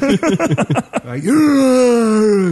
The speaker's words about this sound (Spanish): Te mato, bostezando en un podcast te mato.